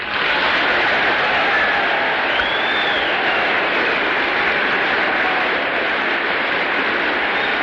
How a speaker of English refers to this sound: General MacArthur turns amid the general applause, shakes hands with Speaker Sam Rayburn, Vice President Barclay, exchanges a few words with him, turns once again and faces the audience